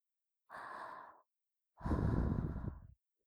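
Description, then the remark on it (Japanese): Two soft, close breaths blown right at the ear, a short airy exhale followed by a longer, fuller whoosh with breathy low rumble, no talking. “あ、耳元に吐息が触れてくすぐったいですか？”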